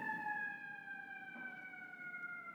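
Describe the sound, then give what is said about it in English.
Sirens of several fire trucks wail steadily in a long, sustained tone as they pass a window in a neighborhood, with traffic rumble underneath and no talking. “Like when the sirens stop, you know the trucks have stopped,”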